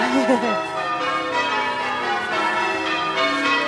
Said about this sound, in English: There you go. That is a peal of bells just... Dorchester Abbey.